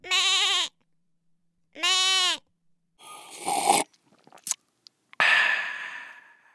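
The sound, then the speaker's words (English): Two quivering goat bleats sound with a pause between them, followed by scuffling, a few sharp clicks and a loud breathy hiss that fades out. “Ew, Chupacabra, leave those poor goats alone.”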